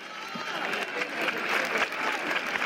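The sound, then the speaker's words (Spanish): A crowd applauds steadily as the procession image of the Virgin comes out, a dense wash of clapping from many hands that holds at a fairly loud, even level throughout, with no voices standing out. “La imagen de la Virgen ha salido. Sí, por eso están esos aplausos.”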